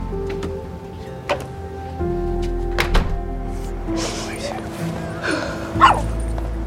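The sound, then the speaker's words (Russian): A door thuds shut as someone steps back and closes it, a short solid knock standing out over a steady low background hum, with a few other soft knocks and rustles around it. “Брэдли смотрит ей вслед и, делая шаг назад, закрывает дверь.”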